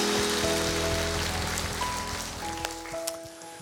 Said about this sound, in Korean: 우리에게 그런 특권을 주신, 사랑을 주신 우리 하나님 앞에 감사와 영광 박수 올려드립니다.